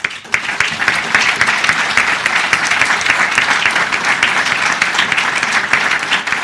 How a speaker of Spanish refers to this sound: Con un prolongado aplauso terminaba su intervención don Ángel.